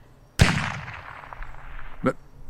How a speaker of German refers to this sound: Was war das? Das war doch ein Schuss. Oh Gott.